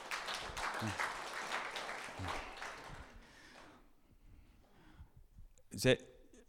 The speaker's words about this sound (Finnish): Kiitoksia, kun olitte tässä niin kuin vähän demonstroimassa tätä hommaa. Annetaan taputukset.